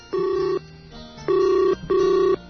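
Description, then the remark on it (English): Ringback tone of an outgoing phone call placed by the Linux Link Tech Show hosts: three steady electronic tone bursts with short gaps between them, clear, with no talking. “Answer the phone, damn it.”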